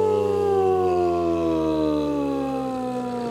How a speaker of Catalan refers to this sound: I atenció, que sonen les sirenes.